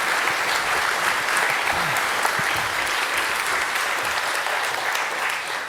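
A crowd claps steadily in sustained, dense applause that stays at an even loudness throughout, with a faint voice briefly audible beneath the clapping.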